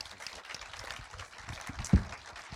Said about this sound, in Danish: Ja, giv dem en klapsalve.